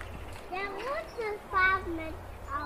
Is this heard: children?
yes